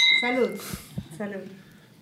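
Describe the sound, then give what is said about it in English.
Glasses of champagne clink together in a toast, a bright ringing chime near the start that fades quickly as people murmur and talk. “All right, so let's taste this. Let's taste this. Okay. Cheers. Salud.”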